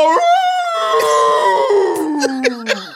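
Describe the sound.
A long, drawn-out wolf howl rings out loud, holding a steady tone before sliding slowly downward in pitch, with a few sharp clicks scattered through the second half.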